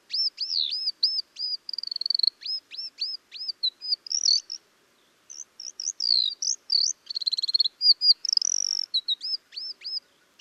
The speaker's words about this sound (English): Ground tits aren't nearly as vocal as their cousins. They're silent most of the time. But here's a recording made in China, and I think there are 2 ground tits vocalizing here.